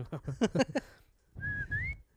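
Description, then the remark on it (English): A brief burst of voiced vocalizing gives way to one clear, steady whistled note from a person, bending slightly upward in pitch and holding for about half a second, fairly loud. “That's the whistle.”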